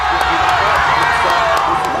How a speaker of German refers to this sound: Auch schon vor 8 Uhr, als kurz vor der Schließung der Wahllokale der Countdown des Fernsehprogramms auf die Großleinwände übertragen wird. Als auf dem Bildschirm die 65% für Macron erscheinen, kennt der Jubel keine Grenzen mehr.